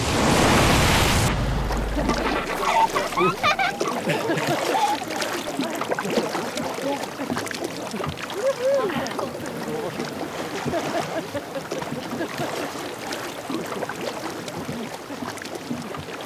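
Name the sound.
boat moving on water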